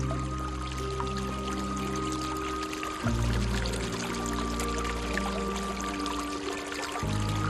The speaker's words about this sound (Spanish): ¿Será este sonido el de la Fuente de la Eterna Juventud? Es el sonido del agua de la Fuente de Asburgas en Orense,